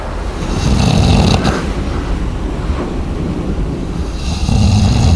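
A man, one of the soldiers on a boat, snoring loudly, with deep, rough breaths rising and falling in a slow rhythm, no talking.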